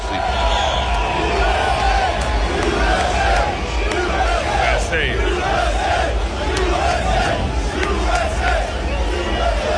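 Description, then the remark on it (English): Thunderous crowd applause mixed with cheering and shouting as President Trump arrives at the Formula One Miami Grand Prix, a dense, continuous roar of many voices that stays loud and steady throughout, with overlapping whoops and no single voice standing out. “Over the weekend, President Trump arrived at Formula One Miami Grand Prix to thunderous applause.”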